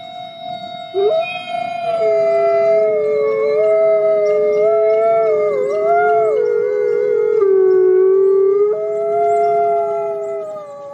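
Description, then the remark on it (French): Several wolves howl together in a sustained chorus, long sliding tones overlapping and weaving at different pitches, continuous and fairly loud throughout with no talking. “Alors, ce sont des loups.”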